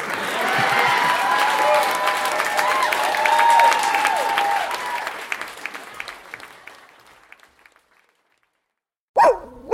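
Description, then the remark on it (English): Dogs bark and yip amid a loud, dense clamor that fades into near silence, then one sharp bark breaks out right at the end. “You hear that? Your dog knows.”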